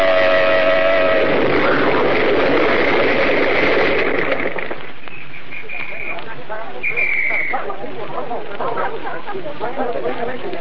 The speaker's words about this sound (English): Yes, officer. I was driving about 50 yards behind their car. Yeah? They started to swing out of line and blew their horn, and then it happened. This awful explosion.